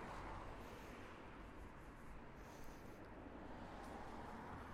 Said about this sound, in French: Les voitures qui ont l'air de rouler moins vite aussi. Leur son semble moins agressif.